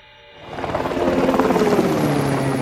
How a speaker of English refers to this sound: And a moment later, the helicopter touched down.